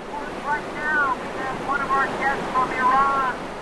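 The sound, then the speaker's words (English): Turbulent whitewater rushes steadily over the artificial rapids of a man-made whitewater park in McHenry, Maryland, where prefab rocks and recirculating water form hydraulics and eddies, during a slalom kayak race. It makes a continuous loud roar, with faint high, wavering calls or shouts drifting above the noise. “She stares at the turbulent waters ahead, and on her cue to go, she paddles toward the first drop, capsizes, and in seconds, rolls the kayak upright and gets back on track.”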